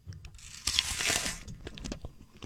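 A crisp crunch as teeth break into a firm apple, followed by a second or so of wet, crackling chewing with sharp little snaps, quite loud and with no talking.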